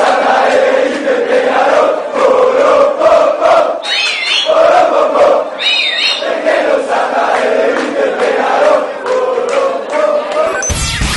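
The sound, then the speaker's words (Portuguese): A large crowd of football fans at Beira-Rio in 2006, during Nacional's match against Inter, with many Grêmio supporters backing Nacional, chants and cheers in unison, a loud, sustained roar with rhythmic surges, while a few shrill whistles pierce through near the middle. “Isso, e esse áudio foi gravado em 2006, quando o Nacional jogou contra o Inter no Beira-Rio, e muitos torcedores gremistas foram dar o apoio para o amigo diante do arquirrival.”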